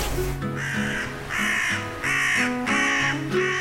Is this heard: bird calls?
yes